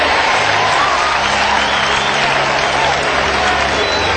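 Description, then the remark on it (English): Steady, loud applause from a crowd fills the whole stretch, a dense wash of clapping with faint cheering mixed in, no pauses or individual claps standing out. “A lot of applause going on there.”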